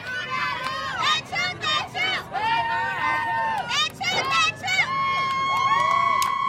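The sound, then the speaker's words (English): About 50 of the school's fans cheer and shout continuously at a football game, with overlapping high-pitched voices rising and falling in excited bursts over a steady hubbub, moderately loud throughout. “The school's fans, about 50 strong now, begin to cheer.”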